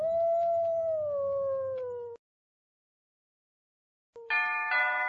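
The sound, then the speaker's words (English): A wolf howls loudly, one long wavering note sliding slowly downward for about two seconds, then silence before a second, brighter howl starts at the end. “The wolf killed all the sheep.”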